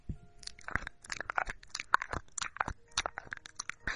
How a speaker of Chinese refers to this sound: 主人，我要继续舔这边。